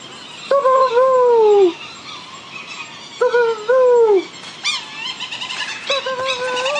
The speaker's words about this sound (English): And these birds, which are coming to these calls, are Providence petrels.